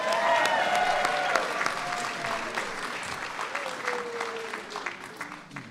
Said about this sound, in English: So please give Haben a big round of applause.